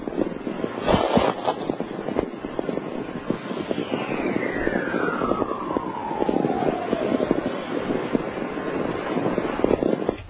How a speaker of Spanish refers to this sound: Igual que en este caso, que estamos hablando de otra tormenta, esta vez obtenida en Reno, y se puede decir que son coros de una tormenta magnética, porque ni más ni menos así sonaría un viento solar de 44 kilohercios.